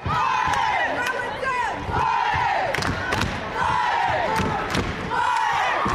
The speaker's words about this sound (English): In the Crow rooting section, emotions run high. War cries erupt at every Crow basket,